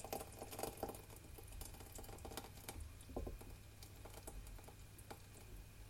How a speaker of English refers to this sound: Okay, so that's reduced down nicely and it's thickened. And what I'm going to do is take that out. And I'm going to pour that into a jug.